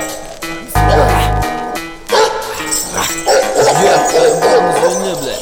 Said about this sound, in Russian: А ну-ка не гавкай на. Не гавкай, сука, скажи. Носи баса. Псина ебаная.